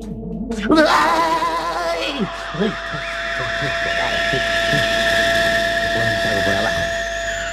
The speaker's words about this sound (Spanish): Comenzando cuenta atrás, motores en marcha. 4, 3, 2, 1, 0. La ignición vaya con Dios.